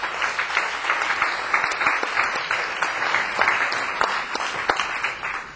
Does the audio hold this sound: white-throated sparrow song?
no